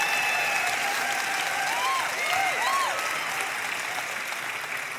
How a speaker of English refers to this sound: And I want you to give them a hand clap and thank them for their willingness.